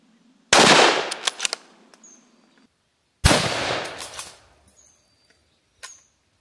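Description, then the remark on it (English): Two loud gunshots, about three seconds apart, each a sharp crack that trails off into a long rumbling decay, with a faint click afterward and no voices. “Shot.”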